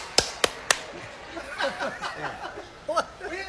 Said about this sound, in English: Big crowd tonight! Big crowd! Hey, I'm ready to rock! Yeah. Hey! I'm up for big crowd. What is this, canned applause?